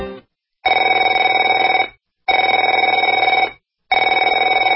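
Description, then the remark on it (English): A telephone rings in repeated bursts, each trill lasting over a second with short silent gaps between, loud and steady with a bright buzzy bell tone and no voices. “Afraid to answer it?”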